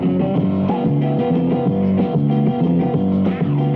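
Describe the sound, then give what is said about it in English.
Guitar music plays steadily at a moderate level, with strummed chords shifting in a regular rhythm and no voices over it. “Guitars there.”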